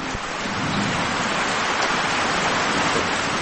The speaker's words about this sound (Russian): От макро к микро, ливень, как мы его слышим.